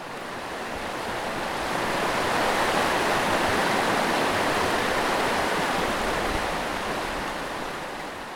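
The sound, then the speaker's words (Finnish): Roaring Käylänkoski rapids on the Kitkajoki river, a dense, steady rush of churning water that swells slightly and holds at full strength throughout, loud with no voices present. “Kosken kuohut kuuluu minun kotipihalle, kun se oli niin lähellä minun syntymäkotia se Käylän koski.”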